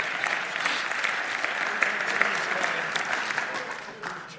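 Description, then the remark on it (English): An audience claps steadily for several seconds, a dense, even patter of many hands at moderate loudness that tapers slightly toward the end, with no talking over it. “So I thought that would get a rousing applause, but you know...”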